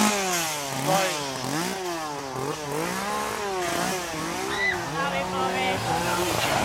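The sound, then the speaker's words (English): A chainsaw engine, wielded by Lucha Libre wrestlers, revs up and down again and again, its pitch swooping in a steady, continuous snarl that stays loud for several seconds. “As Lucha Libre wrestlers with chainsaws.”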